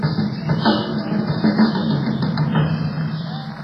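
A drum kit plays a busy, steady pattern of hits over a continuous wash of sustained sound, moderately loud and unbroken, with no voices standing out.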